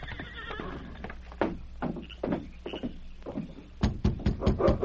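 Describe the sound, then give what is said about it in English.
Horses carrying three riders whinny in shrill, wavering cries over a steady low rumble, then a quick burst of sharp hoof clops comes to a stop as the riders rein to a halt at the Baker cabin in the Yukon. “It was about 2 hours later when Gil Baxter with Frank and Jay rode up to the Baker cabin and reined to a halt.”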